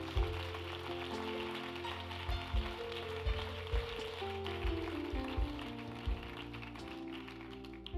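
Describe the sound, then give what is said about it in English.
A crowd gives the Lord a hand clap, clapping in a steady, dense patter of applause that continues throughout, with sustained music and a regular low thumping beat underneath. “Give the Lord a hand clap for those who had their hands up.”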